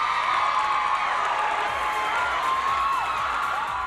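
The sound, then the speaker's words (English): A large crowd of women screams and cheers at full volume as male dancers enter the stage, a dense continuous roar of high-pitched shrieks and whoops with no break throughout. “It was like an explosion of orgasms to hear these women screaming when these Chippendales men would enter the stage.”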